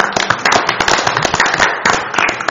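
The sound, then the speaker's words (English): A round of applause from a group for everybody involved in a public hearing, dense overlapping hand claps forming a steady, loud crackling patter that holds for a couple of seconds with no voices over it. “A round of applause for everybody.”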